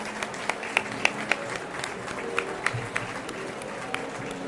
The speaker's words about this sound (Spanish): Un aplauso.